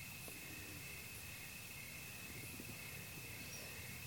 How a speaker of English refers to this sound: It's like the sounds of the crickets outside right now.